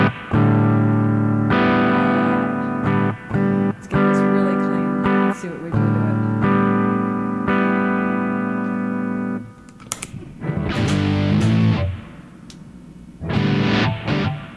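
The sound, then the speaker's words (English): Electric guitar played through a boutique effects pedal made by Michael Ramey that lets you pull harmonics, into a clean amp: loud chords ring out in long sustained strums with short gaps, turning rougher and more broken toward the end. “It lets you pull harmonics out of it. This was made by a friend of mine, Michael Ramey.”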